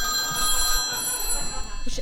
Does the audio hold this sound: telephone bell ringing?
yes